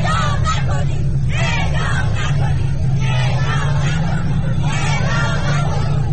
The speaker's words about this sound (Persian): در نزدیک یک هفته تظاهرات ضد مجازات مرگ، ورقه‌های حاوی شعارهای نه به اعدام و اعدام نکنید دست خانواده‌ها چشمگیر بود و فریادهای آنها علیه مجازات مرگ طنین انداز.